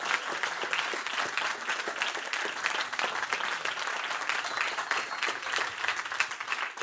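A group of students applauds steadily, a dense, continuous patter of many hands clapping at an even loudness for several seconds, with no talking over it.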